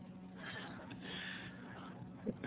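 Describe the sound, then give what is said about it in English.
A long, drawn-out yawn with a low, breathy groan that swells and fades over a couple of seconds, ending in a brief sharp snort-like breath. “My yawn is not an editorial statement on Rensselaer hockey.”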